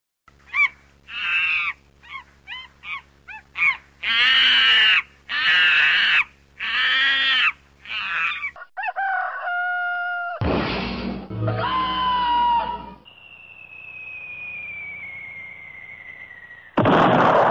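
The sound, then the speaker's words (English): Loud, frantic squawks and shrieks burst out in rapid succession as a monkey attacks and grabs a large bird in a tree, the bird putting up a brief fight, then a few tones, a sudden crash, a long sliding whistle as the bird is thrown out of the tree, and a final thud. “That when he encountered that bird, he clobbered him, grabbed him, he put up a brief fight, and he threw him out of the tree, and the bird now”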